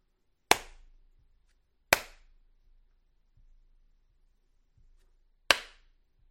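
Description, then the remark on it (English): Three sharp, loud hand claps ring out alone, the first two close together and the third after a longer pause, each with a brief decaying tail and quiet in between, clapped at a tempo of about 80 to 90 BPM. “whether every kind of filtering system is trying to remove the claps”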